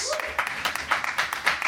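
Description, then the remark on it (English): An audience applauds to pick a winner among competitors, a dense wash of clapping with sharper claps popping out every few tenths of a second, fairly loud. “So pick a winner now with your applause, starting with David Huntsberg, Planes, Trains, and Automobiles.”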